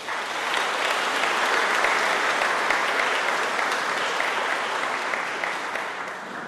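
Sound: audience applause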